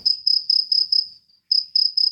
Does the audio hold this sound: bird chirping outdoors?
no